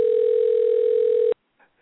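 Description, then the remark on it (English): A telephone ringback tone on an outgoing call: one steady, mid-pitched electronic hum that holds for over a second, then cuts off abruptly, followed by faint, indistinct sound. “Let's give it another ring.”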